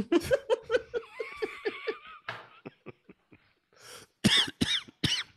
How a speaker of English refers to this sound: God damn it, I'm coughing now.